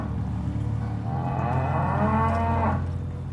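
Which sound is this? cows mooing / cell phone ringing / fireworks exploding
cows mooing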